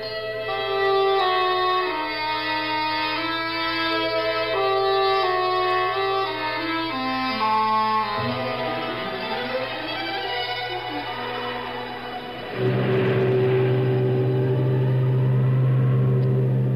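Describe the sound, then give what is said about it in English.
A deep foghorn drones on and on in a long, loud, steady blare, its tone wavering and sliding midway before swelling back to full strength. No voices are heard. “We heard enough of that fog on for the last 9 days without having it right here in the room with us?”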